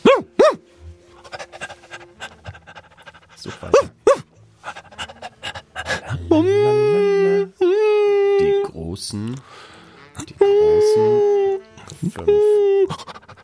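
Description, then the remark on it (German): A person imitates a dog with their voice, first quick breathy panting, then several drawn-out, wavering howls, fairly loud, with a brief spoken remark in between. “Machst du in der Zwischenzeit kurz einen Hund nach?”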